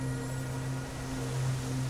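Wind rushes steadily through trees at an observatory at night, making the observatory domes sing, in a continuous, even wash of noise with a low droning hum sustained underneath. No voices are heard.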